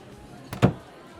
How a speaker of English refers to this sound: Okay, you have to knock on the door. Or, like, go in and look and see if anybody's in there.